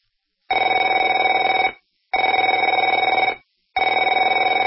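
A telephone rings three times in a steady pattern, each bright, buzzing trill lasting over a second with short silent gaps between, loud and alone with no voices.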